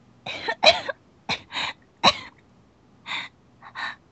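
A girl lying bent double in a hospital bed coughs in a series of harsh bursts, about seven in all, grouped into uneven fits with short pauses between them, with no one talking.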